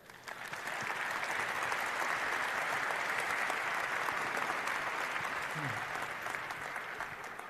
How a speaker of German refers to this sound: Eine Runde Applaus.